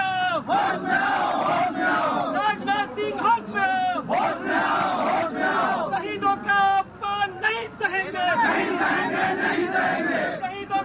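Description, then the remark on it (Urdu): A large crowd of Hindu Sena activists chants protest slogans near Parliament at Jantar Mantar, protesting Home Minister Rajnath Singh's proposed visit to Pakistan, in loud, rhythmic bursts, many voices shouting together in repeated phrases with brief pauses between them. “دائیں بازو کی سختگیر مذہبی تنظیم ہندو سینا کے کارکن پارلیمنٹ کے نزدیک جنتر منتر پر وزیر داخلہ راجناتھ سنگھ کے پاکستان کے مجوزہ دورے کے خلاف احتجاج کر رہے تھے.”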